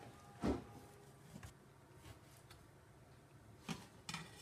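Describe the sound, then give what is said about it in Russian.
A knife slices through turkey meat on a cutting board to marinate it, making a handful of soft, irregular thuds and scrapes spread over a few seconds, quiet, with no talking. “Для начала надо замариновать мясо. Итак. Для этого я его режу.”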